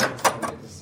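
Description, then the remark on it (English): A small sound-effects prop door for radio drama opens and shuts: two quick wooden clunks, a sharp thud followed by a softer knock, with a brief fading tail and no voices. “shows me that thing that all radio dramas need, a door.”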